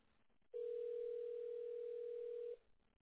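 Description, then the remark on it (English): A steady telephone tone sounds over a phone line for about two seconds as a call is placed from a cell phone, one continuous flat beep with faint line hiss before and after, and no voices. “Let me try it again from my cell phone while I'm on the phone with you and see what happens.”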